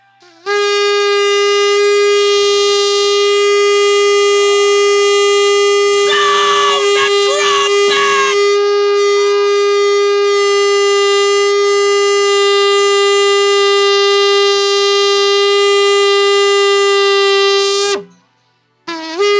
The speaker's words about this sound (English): Tell the Lord, you call me, you summon me, reach for the shofar and sound an alarm. When God call it for his people, he sound the trumpet.